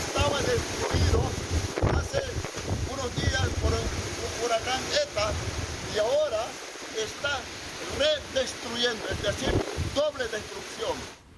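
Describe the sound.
Strong gusts of Hurricane Jota roar and buffet the microphone in a loud, continuous rush in the town of Puerto Casebas, Nicaragua, with people talking over the din throughout.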